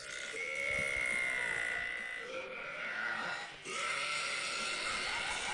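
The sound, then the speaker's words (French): A woman gives a loud, drawn-out burp merged with a shouted vocal cry, strained and bleat-like, followed by a brief pause and a second long, equally loud burst. “Non mais attends, oui, tu rotes et tu fais « Ah !» en même temps, c'est pas un ro fort, c'est juste que tu hurles en même temps.”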